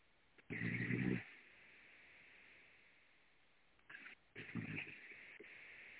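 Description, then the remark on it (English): Two rough snores come through a muffled, tinny phone line a few seconds apart, with steady line hiss filling the gaps between them. “Is that snoring or a car?”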